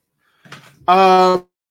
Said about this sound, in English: Hold on a minute, guys. I seem to be, blowing my nose again.